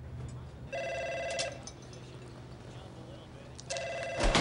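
A telephone in a bar rings twice, a steady electronic trill in two bursts separated by a pause, heard at moderate volume over a low background hum.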